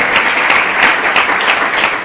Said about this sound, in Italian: L'applauso se mi permettete lo dedichiamo a Mai, no? La protagonista del filmato